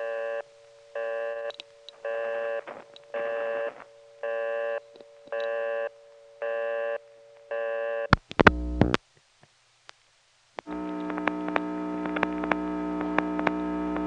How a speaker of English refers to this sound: This being an ESC, after the coin collect, instead of going back to dial tone, it put us on lockout. And of course, you have to flash from lockout to get a new dial tone.